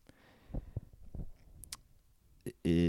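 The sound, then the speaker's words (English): Slow, uneven keyboard typing with one hand while the other holds a microphone: about eight separate key clicks with gaps between them, unhurried and somewhat soft, before a loud voiced sound abruptly cuts in at the very end. “I'm typing with one hand here.”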